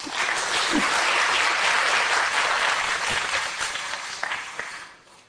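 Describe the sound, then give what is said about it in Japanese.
An audience applauds together for four people, a dense steady wash of many hands clapping at an even loudness for about four seconds before it thins out and fades away. “4人の方々に拍手しましょう。”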